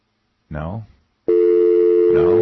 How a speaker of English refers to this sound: Let's try and the phone's ringing again.